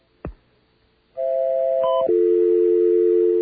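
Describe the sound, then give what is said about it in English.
A sharp click, then a loud, steady electronic phone-line tone that drops to a lower pitch partway through and holds. A telephone busy signal, with no voices. “Okay, now we're having trouble with the phones.”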